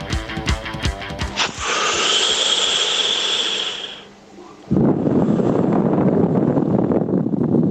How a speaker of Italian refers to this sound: hai sentito il tiro della canna, che poi è strano, sì, perché certo.